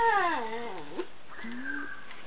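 puppy whimpering

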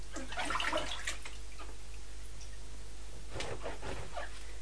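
splashing water

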